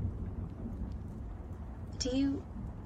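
Low, steady thunder from a thunderstorm outside rumbles throughout, muffled, with a brief breathy vocal sound rising over it near the end.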